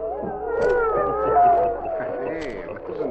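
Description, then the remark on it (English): Several dogs howl together outdoors in the snow as they are about to be fed, long, wavering, overlapping tones that rise and fall, a loud chorus that fades slightly and swells again near the end. “Singing for their supper.”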